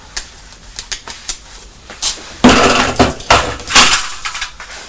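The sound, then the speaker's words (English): A thrown red shoe strikes a toy on a child's high chair and knocks it over: a series of sharp knocks and taps, then louder clattering bursts as the toy tumbles, with no talking. “You've thrown your red shoe and it's hit the toy on your high chair and knocked it over, hasn't it?”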